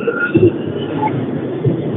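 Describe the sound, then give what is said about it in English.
An amusement ride that gets up to about 80 revs up with a steady mechanical rumble and a faint high whine, holding fairly constant over two seconds with small surges in loudness and no one speaking. “Oh, yeah, you hear it revving up.”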